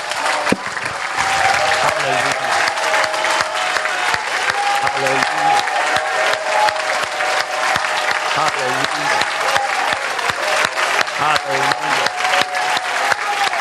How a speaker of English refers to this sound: We're going to clap him and clap him and clap him until he says stop clapping. And even as you clap, something is going to be released. Come on, let's just give him glory.